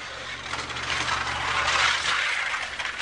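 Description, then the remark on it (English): A motorized target carrier at an indoor shooting range carries a paper human-silhouette target along its track out to 100 yards, with a steady mechanical whir and rattle over a low electrical hum, continuous for a few seconds, with no voices. “Once inside, he attaches a human silhouette to a target carrier, and with the flip of a switch, he sends the paper man sailing into the dark.”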